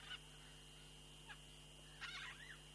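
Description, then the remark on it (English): Wild birds call over a steady hum in Sorghehesar, Iran, in the cold season: a short honking cry at the start, a faint chirp midway, then a louder warbling, goose-like call near the end. “Oh, the sound of these birds is very beautiful.”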